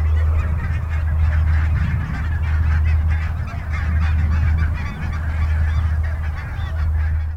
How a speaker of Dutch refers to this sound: In ieder geval nu één vogel minder waar ik de podcast over wilde gaan doen. Namelijk de brandgans die net overvloog. Want die terwijl wij de spullen aan het neerzetten waren, zaten ze hier heel rustig in het weiland te zitten.